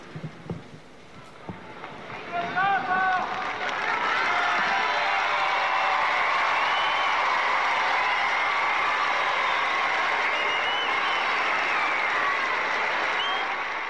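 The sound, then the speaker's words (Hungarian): A large crowd of pilgrims bursts into thunderous applause for the Pope as a farewell, building within a few seconds to a loud, sustained roar of clapping with scattered cheers and whistles that carries on steadily. “Kedves hallgatóink, amint hallották, a mai napon is taps viharral köszöntötték a zarándokok a Szentatyát, így vesznek tőle búcsút”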